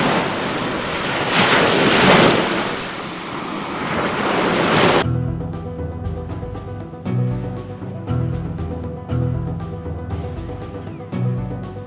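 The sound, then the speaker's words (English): A loud, churning roar of a flood crest, a wall of water rushing down the river, fills the first five seconds, then cuts off abruptly as music with steady beats takes over. “A wall of water coming down the river. The flood crest.”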